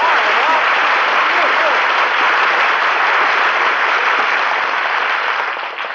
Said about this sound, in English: Gee, was all that applause for me? Yes, sir, Dennis. Every bit of it. The people are glad to see you back again.